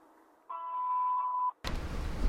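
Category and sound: signal or alarm, telephone number being dialed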